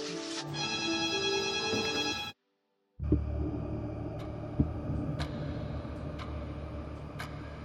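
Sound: telephone ringing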